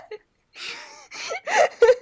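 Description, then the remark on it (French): A pet rabbit sneezing: a quick series of about four short, breathy, hissing snorts, moderately loud, with a faint squeak at the start and no talking. “C'est mon lapin qui éternue.”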